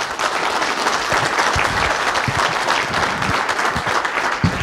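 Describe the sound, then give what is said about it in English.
A sustained round of applause from a crowd at Temple Emmanuel in the morning, dense and steady clapping that stays loud and even for the whole stretch, with no voices standing out. “We can give a round of applause for...”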